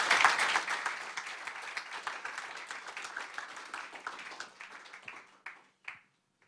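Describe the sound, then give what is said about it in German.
Audience applause for people thanked for telling their stories, a dense burst of many hands clapping that starts loud and gradually thins out, ending with a few scattered last claps. “Ihr dürft ihnen mal noch einen herzlichen Applaus geben.”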